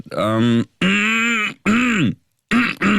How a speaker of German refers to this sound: Ich räusper mich jetzt.